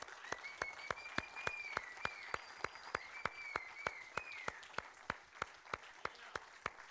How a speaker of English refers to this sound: Let's continue to applaud these guys until everybody gets their gifts.